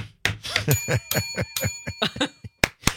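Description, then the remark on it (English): A bright bell rings several times in quick succession, its tones hanging and sustaining over a burst of lively, voice-like chatter, clear, ending with a couple of sharp strikes; standing for the bell sign used in a text message. “With the bell sign. Ding, ding, ding.”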